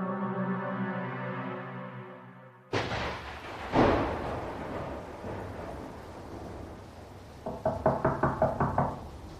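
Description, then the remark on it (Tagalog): A sustained low tone gives way to two heavy booming thuds, then a quick run of about seven sharp knocks on a door at night, fairly loud, near the end. “Huwag mong bubuksan ang pinto, Arlene.”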